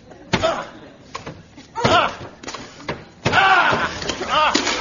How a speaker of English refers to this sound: There's smoke coming out. Somebody's in there. Let's break down the door.